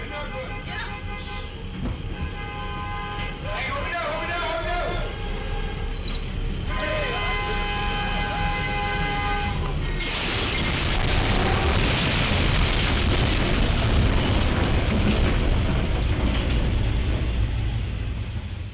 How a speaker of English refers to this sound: I would be remiss if I did not play you the audio from a train hitting a bus. This is some amazing audio. The surveillance camera on the driver. Train coming.